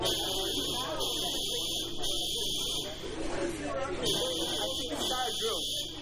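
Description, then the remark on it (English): A fire alarm blares continuously in a loud, harsh buzzing tone with steady pulses, filling the space while people talk underneath it. “This is a we're witness to a fire thing, fire alarm, and this is gone off.”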